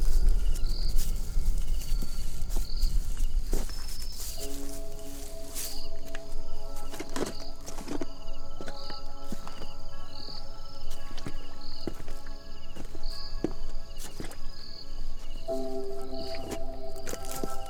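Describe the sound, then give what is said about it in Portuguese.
Footsteps crunch and rustle through dry brush at an irregular walking pace toward a car that has run off into the bush, over a steady background of chirping insects and a faint low hum. No one speaks. “Ali no que você chega no veículo, você percebe que a porta do motorista está aberta e tem uma poça de sangue ali.”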